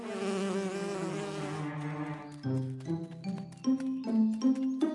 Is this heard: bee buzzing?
yes